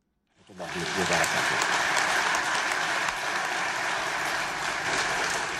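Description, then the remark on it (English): Sustained applause from Arab heads of state at the 28th Arab League summit in Amman, Jordan, for King Abdullah II after his keynote address, rising quickly after a moment of silence and holding steady and loud, a dense wash of clapping hands with no pauses. “Jordan's King Abdullah II was applauded after he delivered the keynote address to fellow Arab heads of state at the 28th Arab League summit in Amman.”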